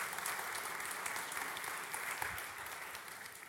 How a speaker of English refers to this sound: So cheer for that. Give yourselves an applause. Yeah.